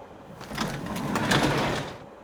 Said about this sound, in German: Bevor ich es aufschlagen kann, öffnet sich die Tür.